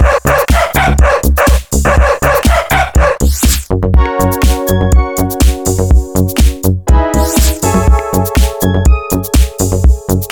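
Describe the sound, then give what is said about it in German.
Voices imitate a dog's barking with repeated 'wow wow' shouts, landing on the rhythm of a loud, driving electronic beat with sustained synth tones throughout. “Hundi! Wow, wow!”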